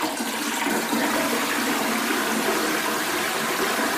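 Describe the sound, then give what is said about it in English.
A toilet flushing: a loud, steady rush of water with a bright hissing quality, running continuously for about four seconds with no voices. “That's going to the loo.”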